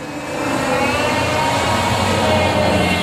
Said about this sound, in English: And wait while the car goes by there. I'm sitting out in my carport to get some nature sounds if possible.